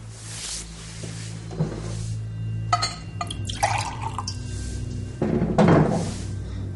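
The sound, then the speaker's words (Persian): Water is poured into a glass in a couple of splashy bursts for someone to drink, with light clinks of glass and small drips between, with no talking. “شکم آب بخورم.”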